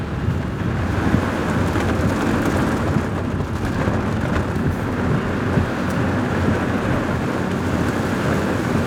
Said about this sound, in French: Bon, là, on rentre dans le dur. Hein. Là, on est vraiment au cœur de l'orage. Hein. Ouais. Là, il y a la pluie, le vent. Les éclairs, là on voit plus rien. Hein. On voit vraiment. En plus, t'as des coups de foudre qui tombent devant.